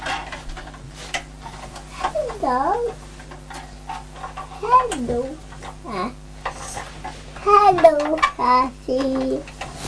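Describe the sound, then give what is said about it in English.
A bird gives a series of warbling, sliding calls in short bursts, some clustered together, over a faint background of light clicks and household clatter. “Can you see that it's a bird?”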